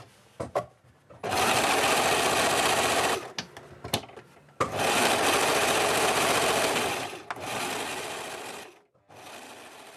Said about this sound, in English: So we actually asked Lawrence to record some of the sewing machine, and well, yeah, it is really loud.